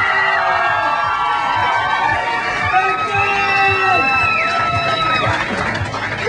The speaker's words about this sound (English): …, give them another round of applause.